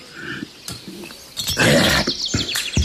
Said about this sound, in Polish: Ptaszki ponownie świergotały. Morwę dosiadły.